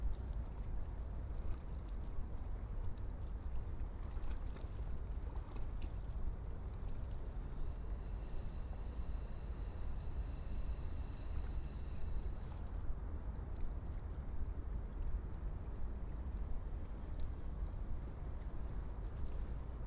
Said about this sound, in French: Il y a un frémissement de l'eau en surface avec son clapotis, mais la respiration du lac est beaucoup plus tranquille, beaucoup plus lente, beaucoup plus ample.